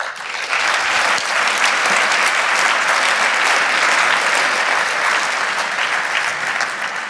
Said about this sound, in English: Thank you all for that round of applause.